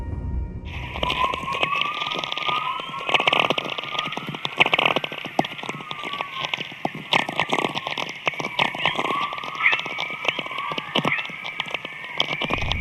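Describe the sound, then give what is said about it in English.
Aurora borealis crackling: a dense, steady stream of irregular snaps and pops, with faint whistling tones that glide up and down underneath, continuing without any voices. “And most people don't know this, but the Aurora Borealis and Australis, they make sound.”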